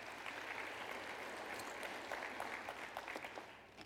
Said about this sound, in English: Let's give the Lord a hand clap of praise in the house of God.